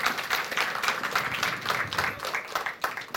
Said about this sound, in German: Zwischen Applaus.